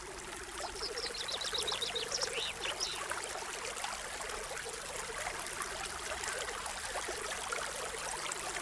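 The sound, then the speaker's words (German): Steady rushing water fills the scene at a constant level, with frogs croaking in a rhythmic chorus underneath and a few brief high chirps early on. “Wir lauschen in das Rauschen des Wassers hinein.”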